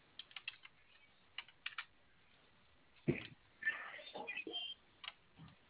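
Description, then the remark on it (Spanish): Computer keyboard keys clicking in short scattered bursts, followed by louder clattering and handling noises as the keyboard, which will not turn on, is fiddled with and its connection checked, with faint indistinct voices in the background. “¿Tu teclado no prende? No. Revísale la conexión, por favor.”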